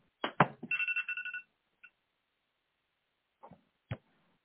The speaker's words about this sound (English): Sorry, folks. I forgot to shut my phone off.